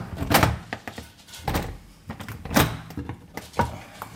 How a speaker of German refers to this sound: An der Innenseite befestigt er ein Holzbrett mit einem Loch, das so groß ist, dass die Türklinke durchpasst. Die Klinke lässt sich dadurch nicht herunterdrücken.